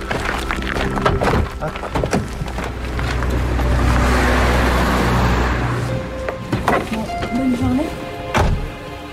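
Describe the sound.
A school bus, the last one bringing all the middle-school pupils, pulls up in Dordogne, France, its deep engine rumble swelling and then easing off, with a few door-like thunks and knocks, a short squeal, and muffled voices.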